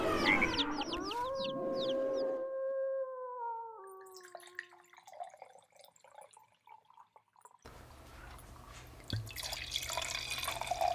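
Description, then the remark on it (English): A rooster crows at the start, followed by scattered drips, then a steady gurgling splash of wine being poured into a glass that continues to the end. No one speaks. “Okay, you can stop pouring.”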